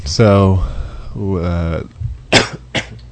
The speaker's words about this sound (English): now I'm coughing.